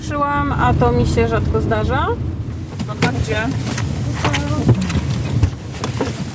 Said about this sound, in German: Plötzlich hält die Fahrerin an. Türen werden aufgerissen.